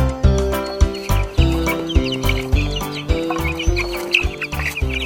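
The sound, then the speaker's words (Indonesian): Hens cluck alongside the high, thin peeping of newly hatched chicks in a chicken coop, fairly loud, set over a steady rhythmic backing with regular beats and no talking. “Wow, lihatlah penghuni baru kandang ayam kita. Tersenyumlah menyambut anak-anak ayam ini.”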